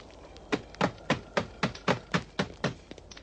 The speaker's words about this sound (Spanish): ¡Tirad la puerta abajo! ¡Romperán la puerta!